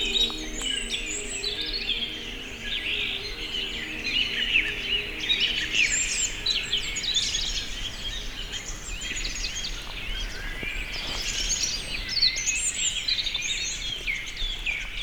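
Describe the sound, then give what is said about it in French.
A dense chorus of many birds singing at once at sunrise on the slopes of the Cagire mountain, overlapping chirps and trills filling the air continuously at moderate volume, with no voices, just a steady outdoor hum beneath. “Les oiseaux, une myriade d'oiseaux chantent ses gousilles.”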